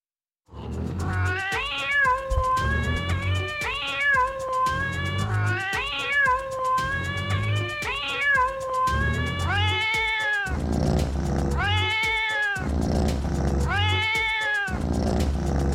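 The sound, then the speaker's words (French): Real cat meows are edited together into a melodic, song-like sequence, repeating in rhythmic phrases with pitched, harmonic yowls over a steady musical backing, loud throughout. “a fait un montage de miaulements de chats et les a fait chanter comme ça.”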